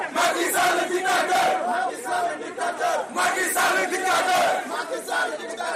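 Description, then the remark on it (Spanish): A large crowd of Senegalese protesters in Senegal chants and shouts "Macky Sall dictator" in loud, rhythmic bursts, protesting a move to postpone the presidential election and keep the president in power. Many voices rise together in repeated surges of yelling, with no single speaker standing out. “Al grito de Macky Sall dictador, los senegaleses protestan contra una maniobra que permitirá al presidente, que está a punto de agotar su segundo mandato, permanecer en el poder casi un año más.”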